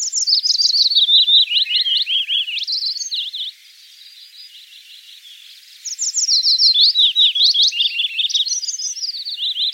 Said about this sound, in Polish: Piecuszka najlepiej szukać w miejscach gęsto porośniętych zaroślami wierzbowymi, skąd często dobiega jego charakterystyczny śpiew, przypominający nieco śpiew zięby.